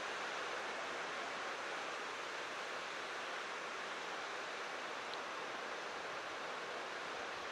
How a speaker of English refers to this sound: Okay, I might just let the rain wash over.